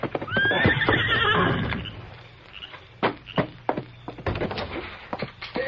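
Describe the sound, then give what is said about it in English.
The Lone Ranger's horse Silver, arriving near midnight at the small way station at Wolf River Crossing, lets out a loud, wavering whinny that rises and falls for over a second, followed by a scattering of sharp hoof clops and thumps as it shifts and stamps. “It was nearly midnight when the masked rider of the plains thundered up to the small way station at Wolf River Crossing.”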